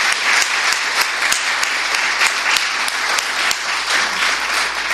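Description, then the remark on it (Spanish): Steady, loud applause from a crowd for a student of the Escuela de Hostelería called up by name, a dense wash of many hands clapping continuously for the full stretch, with no voices rising above it. “Un fuerte aplauso.”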